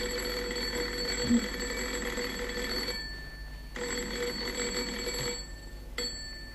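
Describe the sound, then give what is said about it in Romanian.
A telephone rings unanswered in two long electric bursts separated by a short pause, a steady buzzing bell tone, with a brief third ring starting at the end. “Lasă-l să sune.”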